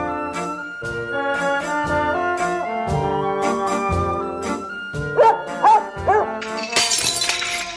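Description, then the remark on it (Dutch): A glass shatters in a sharp, bright crash near the end, the third glass broken that week, following a few quick dog barks, all over steady background music. “dat is nou 3e glas deze week.”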